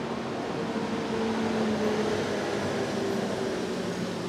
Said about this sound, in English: That's a truck. I'm actually recording this outdoors. It's where I love to be, right? But it's not the most appropriate place to record a podcast. Nonetheless, there's a truck here. I'm going to let it pass.